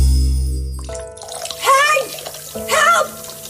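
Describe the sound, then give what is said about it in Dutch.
Water gushes and splashes steadily across a flooded kitchen floor from a clogged kitchen drain at 6:30 in the evening, after a brief musical tone fades out, with a couple of short vocal exclamations rising over the constant rushing flow. “Heel de vloer staat onder water.”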